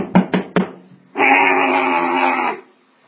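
Three loud, sharp bangs on a door in quick succession, followed by a long, droning, moan-like cry that lasts over a second before fading out.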